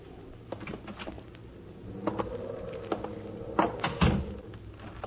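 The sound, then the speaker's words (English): The partially open front door of a house is pushed open with a series of wooden creaks and clunks, ending in a few louder knocks, against a faint background hum. “I walked up to the front door and found it partially open.”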